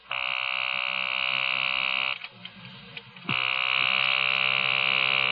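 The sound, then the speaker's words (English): A telephone call placed from a hotel at 4 a.m. rings unanswered: a long, shrill, buzzing ring, a pause of about a second, then a second ring that continues to the end. Loud and steady, with no voices. “I placed the call.”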